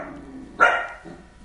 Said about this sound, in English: Now the dogs are barking. Ahora el perro está ladrando.